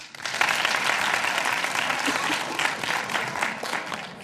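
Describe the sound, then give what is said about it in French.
A crowd of people claps steadily for those who fight against the abortion of children, a dense wash of applause that rises quickly and holds at a fairly loud, even level for several seconds. “Donc, je voudrais demander d'applaudir pour ceux qui luttent pour contre l'avortement des enfants.”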